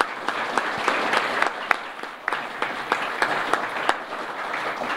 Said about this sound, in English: Give these guys another round of applause. Would you please?